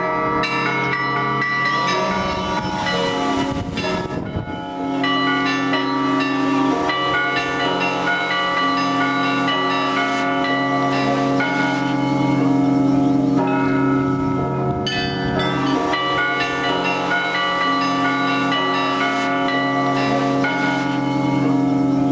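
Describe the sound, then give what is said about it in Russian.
Church bells at the Epiphany Cathedral in Oryol, Russia, ring continuously during a bell music festival in Easter week, played by bell ringers in a dense, layered peal with a deep sustained hum beneath bright overlapping chimes, loud, with no voices. “Помериться им в Орел на пасхальной неделе съехались десятки звонарей. Фестиваль колокольной музыки «Звоны над Орлом» в Богоявленском соборе”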